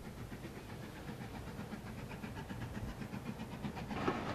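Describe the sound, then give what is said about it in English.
A two-carriage train rounds a corner between hills of rough grassland, scraggy shrubs and trees, rolling steadily along the tracks, a continuous low rumble and hiss with a faint, regular clatter of wheels over rail joints, heard on its own with no voices. “A two-carriage train rounds a corner, hills of rough grassland and scraggy shrubs and trees rising up on either side of the track.”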